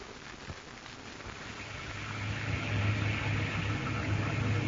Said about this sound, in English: Ain't it nice in here, Ma? Here in the wind and the rain. Us in here safe and cozy.